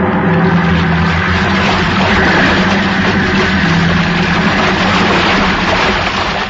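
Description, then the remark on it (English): A heavy wave breaks over a ship's port bow in a loud, sustained roaring rush of water, with a low engine rumble running steadily underneath for several seconds. “Wait, look at the size of that wave. Huh? The great Jehoshaphat. We're going to take it on the port bow. Hang on!”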